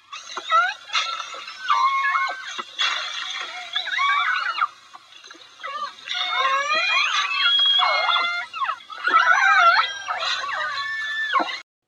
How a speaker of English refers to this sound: The marine mammals that make these sounds are a type of toothed whale that was the subject of today's show. That's right. Here are the sounds of a pod of killer whales.